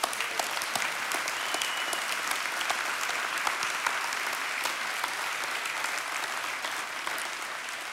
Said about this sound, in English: Now I want to ask our Jacobs, those that are 39 and under, would you stand? Jacobs, let's give this group a round of applause.